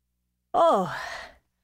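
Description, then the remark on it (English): A voice imitates a gust of strong wind with a single breathy, whooshing sigh that swoops down in pitch and fades out over nearly a second, heard alone. “Wow! It sure is windy! I wish this wind would stop so that I could tell you about the sound wuh.”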